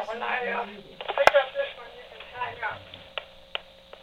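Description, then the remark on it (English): Muffled, indistinct voices murmur in the background over a thin, tinny phone line, with a few sharp clicks and a brief tonal blip partway through. “Listen, I'm hearing a little bit of people talking in the background.”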